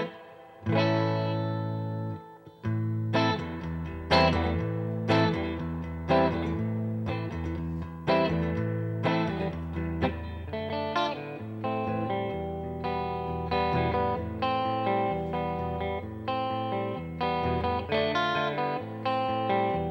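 Electric guitar played through effects, sustained distorted chords with a chorus-like shimmer, changing in a steady strummed rhythm for the whole stretch, fairly loud and with no voices.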